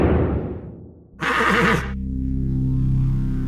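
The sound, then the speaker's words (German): A horse whinnies loudly, a sharp quavering neigh lasting under a second, followed by a low steady hum with no one speaking. “Mehr als nur eine Pferdestärke, unglaubliche Höchstgeschwindigkeit, nur 4 Scheffel Heu auf 100 Kilometer.”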